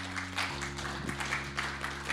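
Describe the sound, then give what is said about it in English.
An audience applauds the Connect group leaders and worship team in a steady, dense wash of clapping that keeps going for a couple of seconds, with a sustained low keyboard-like drone holding underneath. “Please give a round of applause to them.”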